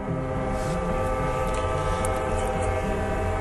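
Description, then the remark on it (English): A train rumbles loudly and steadily, with a sustained, droning train horn running through the whole stretch; no one speaks. “Do you ever feel nostalgic hearing the constant sound of the train?”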